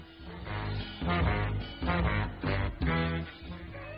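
A duck quacks repeatedly and loudly, a run of raspy, nasal calls bunched into several bursts over a few seconds, with no talking.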